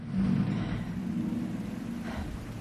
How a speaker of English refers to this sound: A truck full of men follows close behind her.